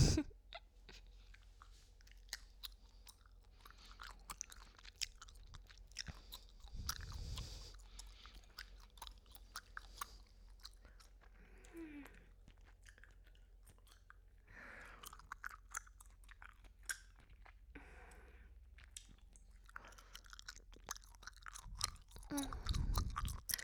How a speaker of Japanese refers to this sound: あなたの耳の真横でガムをくちゃくちゃ食べてるところをちゃんと想像して。マイクをあなたと思ってガム噛んでるから。